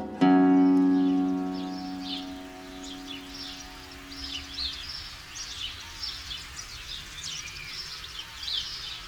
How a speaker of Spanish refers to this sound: Gorrión doméstico, de nombre científico Passer domesticus, del orden Passeriformes y de la familia Passeridae.